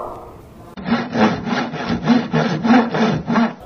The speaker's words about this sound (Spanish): Ahora tenemos un serrucho.